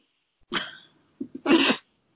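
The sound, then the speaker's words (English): A puppy in a studio lets out two short, sharp, raspy yips, the second preceded by a couple of soft snuffly huffs, with quiet in between and no talking. “We have puppies in the studio on both sides, so you may occasionally hear from the dogs.”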